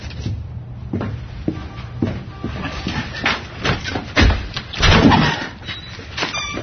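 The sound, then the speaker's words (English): A stuck door is shoved and rattled open, with a series of uneven thumps and scraping jolts building to a heavier grinding push near the end. “No, I can't open the door. It's stuck again? Just come on inside.”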